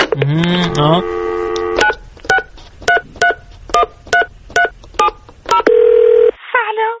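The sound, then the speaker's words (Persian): A rapid sequence of about ten crisp telephone keypad tones beeps out the phone number of a young lyricist for a phone interview, following a brief warbling tone, then a sustained ringback-like tone and a short electronic chirp close it out. “حالا یه زنگ بزنم به یکی از ترانه سراهای جوون ببینم این یکی چی میگه.”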